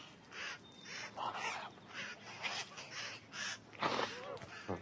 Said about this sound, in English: You silly bird. Why doesn't anybody else do that? How come you're the only one that does that?